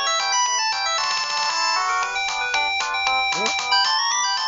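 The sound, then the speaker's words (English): A bright, melodic cell phone ringtone plays continuously and fairly loud, a busy electronic tune of rapid tones with a brief sweeping flourish near the end. “Regis' cell phone. It's the president's cell phone.”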